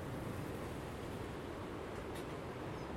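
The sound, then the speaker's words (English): A steady, roaring rush of strong wind blows outdoors in wild, windy weather without a break, dense low-end buffeting filling the whole stretch with no voices present. “And we're back to the wild, windy weather again.”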